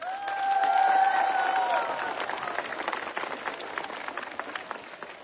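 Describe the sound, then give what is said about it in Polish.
A crowd at Jasna Góra, gathered for the 15th pilgrimage of children's courtyard rosary circles, breaks into sustained applause for listeners of Radio Maryja and TV Trwam: dense clapping that swells early and then continues steadily. A faint whistle-like tone rises briefly at the start before fading into the clapping. “Dla nich ogromne brawa z Jasnej Góry.”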